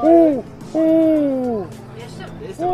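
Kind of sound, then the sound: bird, eagle-owl hooting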